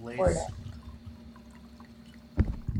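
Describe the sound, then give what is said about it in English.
Orange wine is poured into a glass, a soft, steady liquid trickle after a brief vocal sound at the start, ending with a sharper knock near the end. “I'm going to do a little pour here.”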